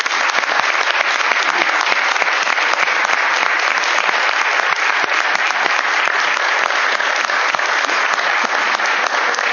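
Steady, loud audience applause fills the whole stretch, a dense wash of many hands clapping at once with no pause and no voices breaking through.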